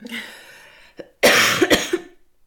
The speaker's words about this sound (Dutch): Oei, ik moet hoesten.